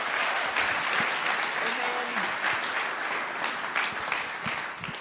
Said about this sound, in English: Can we just applaud him and welcome him as a man of God?